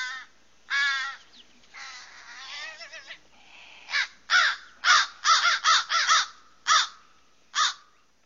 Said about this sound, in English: So a crow, yep, by any other name sounds the same? Yep, calls the same. Yep, it does. It does. All right, so let's listen.